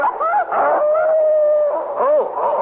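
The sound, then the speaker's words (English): A dog hidden in a basket on a train howls loud in one long, wavering cry, its pitch sliding up and down before a final rising-and-falling swoop near the end. “Did I hear a dog up here?”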